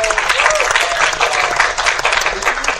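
Steady audience applause fills the whole stretch, a dense wash of many hands clapping at once, fairly loud and close, with no voices standing out above it.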